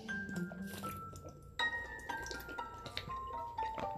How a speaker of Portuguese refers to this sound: Só um gole aqui pra ele, de água.